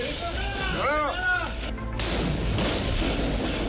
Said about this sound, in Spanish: Hay un tiroteo, se desata un infierno. Son disparos con armas automáticas.